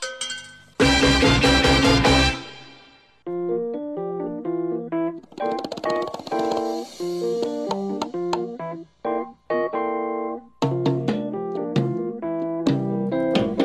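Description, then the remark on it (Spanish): A bell is rung on air on Latina Stereo FM radio in Medellín, ringing out loudly with a bright, sustained clang, then a quick melodic run of ringing, bell-like notes follows, rising and falling with short pauses and no voices. “¡Toca la campana!”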